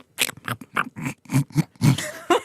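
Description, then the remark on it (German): A voice imitates the grunting of wild boars heard around a house in Italy: a quick, rhythmic run of about eight rough, snorting grunts, breathy and gravelly, each short burst following closely on the last. “Und ich schaue um das Haus rum. Nix. Geh wieder zurück. Setz mich wieder hin. Macht's wieder so ein...”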